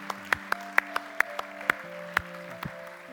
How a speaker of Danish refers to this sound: Så skal vi give hinanden en mægtig hånd for hver eneste en, som har taget imod Jesus den her dag.